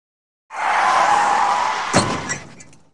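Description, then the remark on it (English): A lorry's loud rushing skid builds for over a second, then ends in a sharp crashing impact as it hits an elephant, with a brief clatter of debris before the noise quickly dies away. No voices. “Suddenly, the lorry hits something and stops.”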